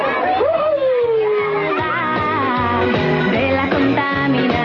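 More than 400 children sing together loudly at Parque Cayetano Callizanes in the Kennedy locality of Bogotá, while steady, rhythmic clapping keeps time underneath, the lively crowd sound filling the whole stretch without pause.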